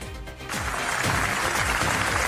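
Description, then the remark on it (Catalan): A large crowd at Cannes breaks into loud, sustained applause after a brief quieter moment, the clapping dense and continuous, an ovation for director Pedro Almodóvar and the cast before the presentation of his film Amarga Navidad. “El director manxec, emocionat, agraïa l'aplaudiment d'aquesta manera.”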